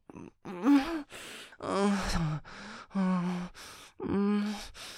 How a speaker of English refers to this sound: Don't tease me about my breathing. I'm trying not to.